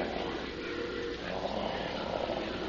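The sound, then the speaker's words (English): A well-fed tiger's deep, rumbling purr runs continuously at a steady, moderate level for a few seconds, with a low, throaty, slightly rough texture and no talking over it. “It sounds like it's purring. Yes, purring. The purring of a well-fed jungle cat.”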